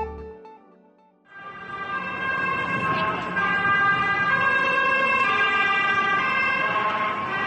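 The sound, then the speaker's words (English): Sirens of many ambulances speeding past in Stockholm on April 7th abruptly start up and wail loudly and steadily, several overlapping tones blaring over a rumble of road traffic for the rest of the stretch. “Sirens, lots of them. Ambulances speeding past, with more following suit.”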